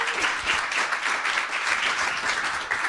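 An audience at a live event applauds steadily as a guest is introduced, a dense, sustained wash of many hands clapping at once with no single claps standing out, holding an even loudness throughout.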